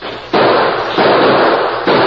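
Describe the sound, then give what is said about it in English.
Three loud gunshots crack out at uneven intervals as defenders hold off attackers, each sharp blast leaving a heavy, lingering roar that carries straight into the next shot. No one speaks. “We can hold them off until the Lazy Bee riders hear the shooting.”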